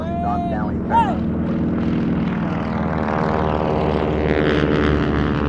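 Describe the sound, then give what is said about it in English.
Restored vintage propeller planes of a squadron at Van Nuys drone loudly overhead in formation, a thick, steady engine rumble with layered tones that holds for several seconds, as a line of active-duty female pilots salutes on the ground. Faint voices are briefly heard near the start. “On the ground, a line of active-duty female pilots salute as the planes pass in formation.”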